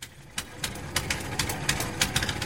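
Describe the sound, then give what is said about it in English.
A fishing boat's engine runs steadily on the Yatta River in Bolivia, with a low, rumbling drone and regular clattering knocks on top, moderately loud, with no voices. “I'm on a fishing boat on the Yatta River in Bolivia, the landlocked South American country which, alongside nine others like Peru and Brazil, forms part of the huge Amazon basin.”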